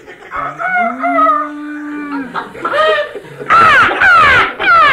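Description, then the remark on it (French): A cow lets out a long, drawn-out moo, followed by further loud, overlapping animal calls in a busy farmyard setting. “As-tu vu la belle ferme qu'on a?”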